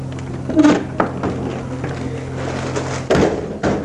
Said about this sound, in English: That was the fire exit door. Probably broken now, but there we are.